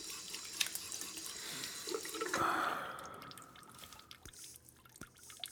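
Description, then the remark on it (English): Slightly cold water runs from a tap for a few seconds, with soft splashing as hands are wetted under the stream, then it shuts off, leaving scattered drips. Nobody speaks. “I'm gonna get my hands a little wet with some slightly cold water and put them on your face.”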